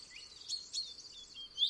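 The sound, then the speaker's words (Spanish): A common chaffinch sings quietly, a high, bright run of chirping notes lasting under two seconds, with a couple of sharper accents and a rising note at the end, with no voices. “pero el pinzón vulgar subraya muy bien su pin.”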